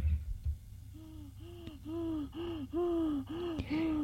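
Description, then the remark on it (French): A man lying down gasps for air as he suffocates, in a steady series of strained, rasping inhalations, about seven in quick succession, fairly loud. “Il suffoque. Il a des secousses nerveuses.”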